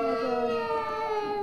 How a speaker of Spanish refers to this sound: ¿Cuántas personas estamos llorando ahora?